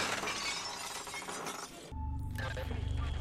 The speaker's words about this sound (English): Sorry, like right when you asked that, they got in a car crash.